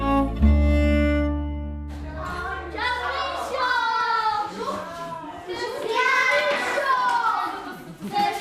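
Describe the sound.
A lively crowd of children at a charity in Mojžíř chatter and shout around a volunteer, several high voices overlapping as they play, preceded by a brief steady hum at the start.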